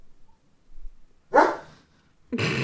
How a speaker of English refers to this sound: There's nothing to bark at, bro. Are you barking at Raven?